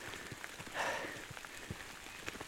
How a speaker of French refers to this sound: Sous la pluie.